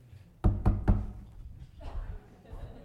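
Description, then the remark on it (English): Three quick, loud knocks on a door land in a steady rhythm near the start, sharp, then fade into a faint murmur of background sound. “Like, but when's the last time somebody knocked on your door?”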